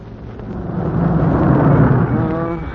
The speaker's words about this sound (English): Yeah, from the sound of the firing, the Jerry's are pounding that sector. So wherever they're pounding is wherever the war is.